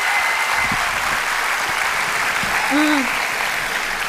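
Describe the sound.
An audience applauds steadily throughout, a dense, even wash of clapping at constant loudness, with a brief voice-like tone rising and falling near the end.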